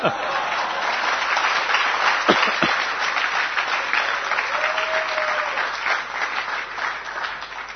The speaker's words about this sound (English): You are clapping, but I don't know how many have realized this.